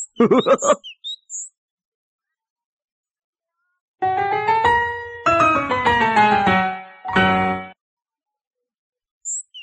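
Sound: bird chirping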